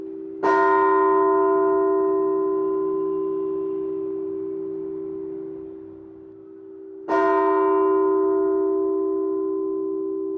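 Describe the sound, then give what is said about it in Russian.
A church bell tolls twice, about six seconds apart, each deep, resonant strike ringing out with rich overtones and a long, slowly fading hum. No voices are heard. “А звонарь, он должен, зная качество каждого колокола, сделать, чтобы было благозвучно.”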